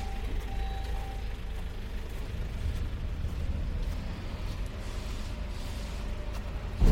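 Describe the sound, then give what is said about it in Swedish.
A car reverses on a street with a steady, low engine rumble that holds throughout, a short high tone sounding briefly near the start. No one speaks. “Nu börjar det backas också.”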